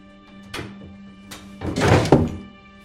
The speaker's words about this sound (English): He opens his desk drawer.